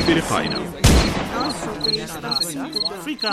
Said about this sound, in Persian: یک شب در نیمه های شب در همون شکارگاه از خیمه امیر صدای تفنگه بلند میشه.